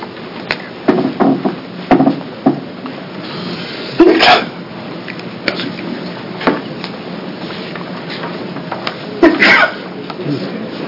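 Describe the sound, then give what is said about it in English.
During a committee hearing, a sharp sneeze bursts out, followed a few seconds later by another, both loud against quiet, with faint voices and shuffling in the background. “Bless you.”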